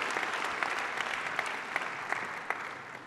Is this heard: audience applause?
yes